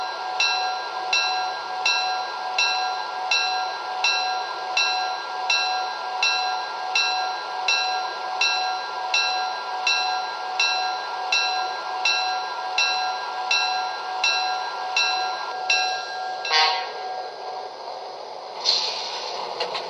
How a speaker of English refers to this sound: Tacoma on track 1, train number 16, the Olympian.